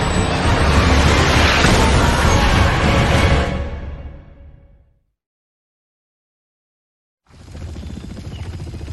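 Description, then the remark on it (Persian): A loud, roaring blast from a weapon fired from a helicopter at a target fills the first seconds, then rumbles away into complete silence before the heavy helicopter noise returns. No one speaks. “2 در حال آزاد کردن سلاح به سمت هدف.”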